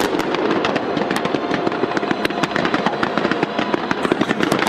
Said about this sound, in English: That was Hong Kong with a massive fireworks display lighting up Victoria Harbor.